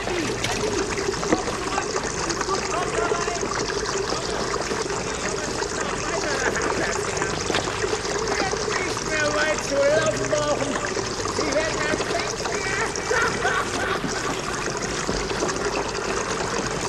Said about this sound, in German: Sieh, da rinnt das Wasser den Gang entlang. Die Flut.